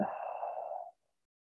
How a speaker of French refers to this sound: Expire en quatre temps, on tient la respiration poumon vide et vous connectez tout votre corps. Inspirez. Tenez la respiration poumon plein. Expirez.